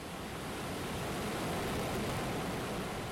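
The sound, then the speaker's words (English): A steady, even wash of ocean surf fills the space, a soft continuous rushing roar with no distinct breaking swells and no voices. “Continue breathing along with the ocean waves.”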